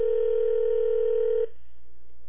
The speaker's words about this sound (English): It's ringing,